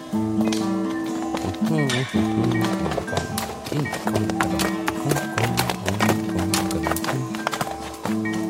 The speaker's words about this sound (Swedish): En man på häst rider förbi.